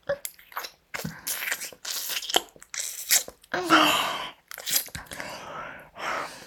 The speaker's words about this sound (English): Slobbering and slurping, frothy little fuck slut. Her tongue dancing all over your tip. Look at her slurping at your cock.